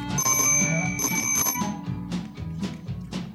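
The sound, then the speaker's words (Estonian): A bicycle bell rings twice in quick bright trills, its high metallic tones lingering, followed by softer rhythmic clatter and low rumbling underneath. “Meie lähme rattaga.”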